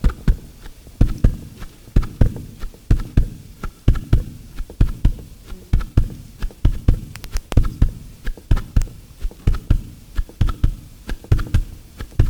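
A steady heartbeat thumps in a slow, regular double rhythm, muffled with deep low-end pulses, heard on its own without any talking.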